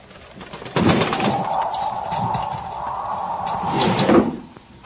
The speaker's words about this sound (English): It was a bird. What kind, I could not tell. The wind must have driven it to shelter on the sill.